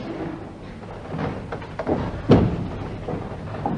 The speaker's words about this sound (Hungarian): Hát akkor miért nem nyitsz már ajtót Anderson úrnak? Kristóf lomán az ajtóhoz megy, kinyitja.